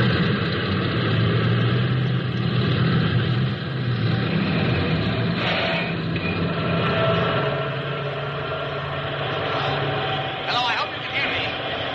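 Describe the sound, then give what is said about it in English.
A loud, unbroken roar of army vehicle motors, a task force of bulldozers, tracked vehicles, tractors and trucks moving east up rising ground in a valley, fills the whole stretch, a dense rumbling drone with a few brief rising whines near the end, and an indistinct voice buried beneath it. “hear me above the roar of these motors here?”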